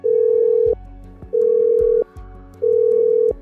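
A steady ringback tone repeats three times, each long beep lasting under a second with short gaps between, heard clearly on a phone line during an unanswered call to Šlesers.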